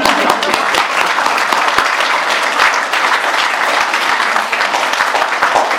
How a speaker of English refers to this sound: But this, yes, we can clap.